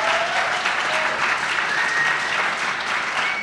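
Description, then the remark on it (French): Sustained audience applause for the guests, a dense wash of many hands clapping at steady volume throughout, with a faint whistle-like tone drifting in the background and no speech. “Formidable, on peut les applaudir.”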